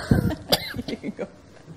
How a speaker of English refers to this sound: I'm about to cough, sorry.